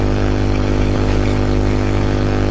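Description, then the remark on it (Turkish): A vehicle engine rumbles steadily and loudly outdoors where cars and buses pass and wind blows, a low droning hum with no clear approach or fade, heard on its own without any voices. “Araba geçiyor, otobüs geçiyor, bir şeyler, rüzgar var işte.”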